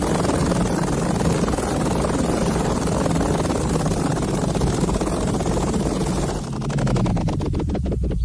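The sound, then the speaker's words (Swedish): A helicopter coming in to land roars loudly, a dense rushing engine noise that gives way near the end to distinct rhythmic rotor-blade thumping as it descends. “Nej, det är ingen fat, det är en kopter! En helikopter, grodan, som tänker landa, tror man.”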